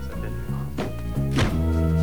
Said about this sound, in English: Gundars and his associate get into the car, and a henchman slams the boot shut.